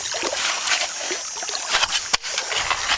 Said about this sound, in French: les pieds dans le ruisseau, tamise du gravier. Qu'est-ce que vous faites là? On est en train de chercher le diamant.